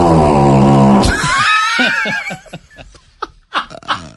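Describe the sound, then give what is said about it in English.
A buzzsaw-style fart slowed to half speed: a loud, low, raspy buzz for about a second, then wavering higher-pitched squeals and a string of uneven sputtering pulses trailing off. “You have the buzzsaw, like we just heard, and then like the popcorn popper style of fart.”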